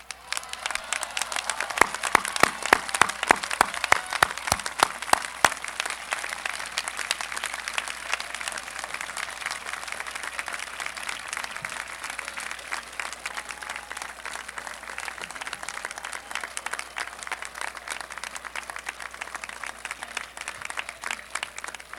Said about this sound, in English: We salute them both and ask them to stand for a well-deserved round of applause first. Will the parents of the graduates please stand?